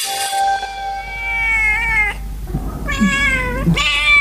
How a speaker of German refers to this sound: Eine Katze hat ihr Frauchen im hessischen Rüsselsheim vor einem Einbrecher beschützt. Weil Nala mitten in der Nacht laut miaute, stand ihre Besitzerin auf und sah gerade noch, wie ein Einbrecher aus ihrem Haus flüchtete.